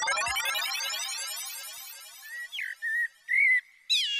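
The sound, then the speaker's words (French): Clear, fluty whistled phrases of a common blackbird's song, several short notes in a varied sequence, following a dense, shimmering wash of sound at the start. No talking. “Peut-être as-tu reconnu le chant du merle.”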